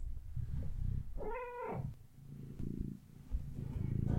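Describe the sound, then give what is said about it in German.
A cat purrs with a steady, low rumbling that runs through the whole moment, broken briefly by a single short meow near the middle. “Ich habe hier manchmal ein bisschen Highlife mit 2 Katzen und einem Hund bei der Podcast-Aufnahme, ist immer ganz spannend.”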